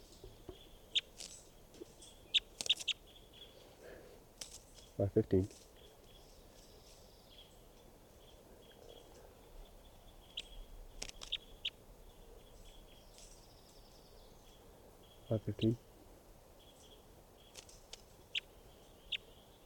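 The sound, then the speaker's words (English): Bird calls in a quiet outdoor recording: scattered faint, high chirps and ticks, with two short, buzzy harmonic calls standing out about ten seconds apart. No one speaks. “Is it recording bird 515?”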